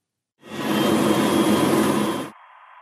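A loud, steady machinery roar with a deep rumble fades in, then abruptly collapses into a much quieter, thin hiss as the inverse of the noise is faded in on top and cancels it out.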